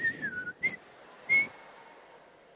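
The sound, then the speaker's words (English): Someone whistles a short, wavering phrase, with a pitch that slides downward, broken by a couple of brief breathy bursts, then trails into a long, steady, faint note. No talking. “He will close his eyes and start blowing whistle.”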